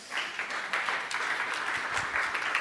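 A crowd applauds steadily, a dense wash of many hands clapping at an even, moderately loud level throughout, with no voices standing out.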